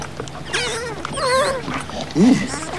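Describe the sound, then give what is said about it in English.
A dog whimpers in a string of high, wavering whines, followed by a louder, lower yelp-like sound near the end, against a faint background. “Get that dog. Get the dog off of it.”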